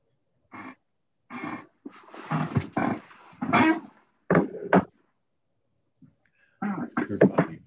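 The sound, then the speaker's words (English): A cat in church vocalizes in a series of drawn-out, throaty yowls and shorter cries, fairly loud, with brief pauses between bursts and no talking. “it's great to see that your cat has come to church.”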